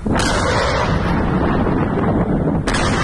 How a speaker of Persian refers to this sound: نهم مرداد ماه اخبار و تصاویری منتشر شد از تبادل آتش بین نیروهای طالبان و مرزبانان ایرانی در منطقه مرزی هیرمند.